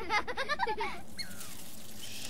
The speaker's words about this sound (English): Actually, that's a Douglas squirrel alarming. Because we're off trail in its territory.